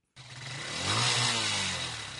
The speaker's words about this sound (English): 21-year-old Kingsley Weba warms up the engine of his motorcycle taxi as he gets ready to work in Cameroon's capital, Yaoundé.